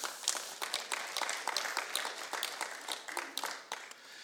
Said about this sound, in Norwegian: Tusen takk til lovsangsteamet. Vi gir deg en liten applaus.